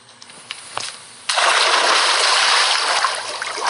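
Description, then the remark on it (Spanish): A single loud splash as a girl dives into a river from a high rock, followed by a sustained rush of churning, sloshing water that slowly settles, with no voices. “Nadó feliz de disfrutar ella sola del río y decidió lanzarse nuevamente de aquella roca.”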